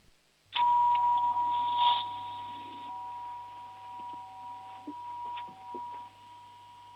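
doorbell ringing

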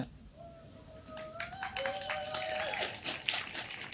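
audience applauding

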